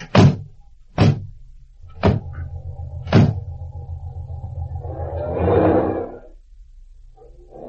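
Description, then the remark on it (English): Four sharp car door slams in quick succession, then an engine starts and idles with a low steady rumble, swelling as the car revs and pulls away. No one speaks. “Now, let's get in my car and we'll retrace the entire course to look for clues.”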